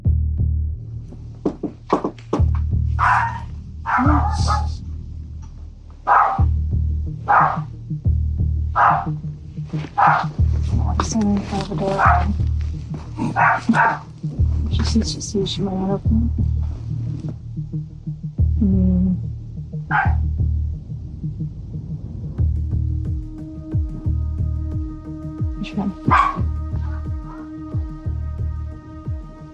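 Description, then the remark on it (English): A small Shih Tzu dog runs out by a woman's feet, barking in a rapid run of sharp yaps over a low throbbing hum, then quiets as people talk. “The dog, a Shih Tzu, ran out by her feet.”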